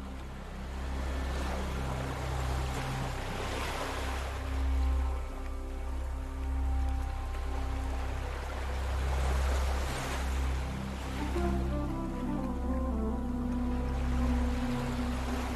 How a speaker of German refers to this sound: Du kannst das Rauschen der Wellen hören. Du folgst der zauberhaften Melodie des Roten Meeres.